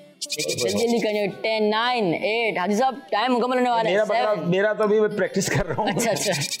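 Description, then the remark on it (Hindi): A male goat in a game bleats loudly and repeatedly, its wavering, quivering cries following one another almost without pause for several seconds, with a person's voice mixed in alongside. “हाँ आ रहे भाई बकरे, आ रहे हैं, बकरा भी चिल्ला रहा है भाई, जल्दी करो जल्दी करो।”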